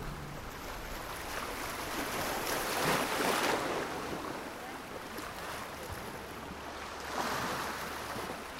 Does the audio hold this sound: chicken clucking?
no